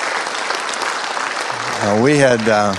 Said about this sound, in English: And we praise the Lord. Go ahead and applaud. I think that's great.